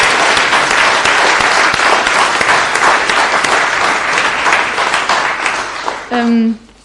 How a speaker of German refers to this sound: Ja, vielleicht mal einen Applaus, oder? Ist ja nicht selbstverständlich.